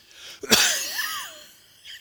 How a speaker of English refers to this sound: Let's all cough together.